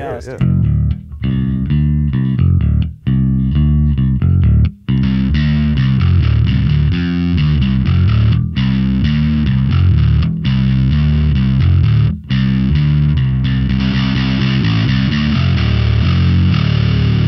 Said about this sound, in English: And then this Greed Tone is another company out of Seattle. This guy Greg builds those out of his basement. And once again, it's just a little distortion box, but it doesn't take away from the low end and, you know. It's perfect for bass.